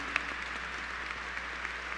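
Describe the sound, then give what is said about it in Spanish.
Steady applause from a group for the Virgin Mary (María Santísima), given after a prayer of consecration to her, fills the whole two seconds, a dense, even patter of many hands clapping with no voices over it. “Le damos un fuerte aplauso a María Santísima, que nos cuida y nos bendice.”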